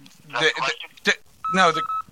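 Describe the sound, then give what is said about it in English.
Electronic telephone tones as a call is lost, sounding in three short bursts over about two seconds, with a steady beep in the last burst, fairly loud amid warbly, voice-like sounds. “Shit, my call was lost.”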